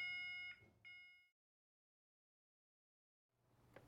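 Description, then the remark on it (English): A loud, harsh hospital emergency buzzer alarm, pulled as a patient has a seizure, sounds in two quick bursts, then cuts off into silence before a low rumble of background noise returns near the end. “Get the crash trolley, pull the emergency buzzer and call the anaesthetist.”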